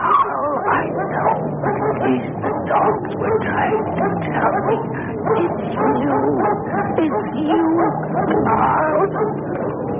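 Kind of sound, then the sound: animal, dogs barking and whimpering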